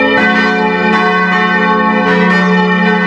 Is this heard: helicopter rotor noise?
no